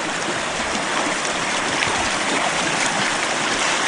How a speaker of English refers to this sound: As you can hear, the creek is babbling right along.